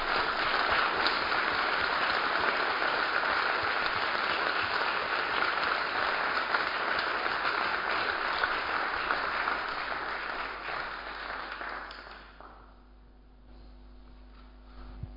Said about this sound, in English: So please join me in a round of applause to say thanks